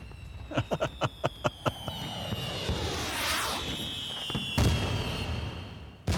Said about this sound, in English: Fireworks have been a part of the 4th of July since the very beginning, and it's safe to say that in general, the rule has been the bigger the better.